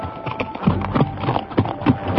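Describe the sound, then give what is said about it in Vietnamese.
Rapid hoofbeats of a horse galloping on a main road as a rider races toward, clattering in a steady, driving rhythm, moderately loud, with no talking. “Bỗng nghe tiếng gió ngựa dồn dập, trên đường cái một người phi ngựa chạy như bay tới.”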